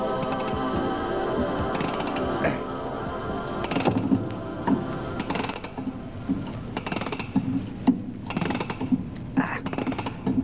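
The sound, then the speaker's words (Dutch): A stopped old clock being wound with a key: a steady run of ratcheting clicks and mechanical rasps, irregular in rhythm, growing a little sharper toward the end. “Ja, dan zal ik de richting sleutel even moeten vinden.”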